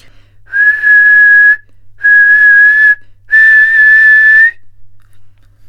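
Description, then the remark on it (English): A silver whistle blown three times in a row, each a steady, shrill, breathy tone lasting about a second, the last blast slightly longer, with short pauses between and no one speaking. “When the wicked witch looked out again and saw all her crows lying in a heap, she got into a terrible rage and blew 3 times upon her silver whistle.”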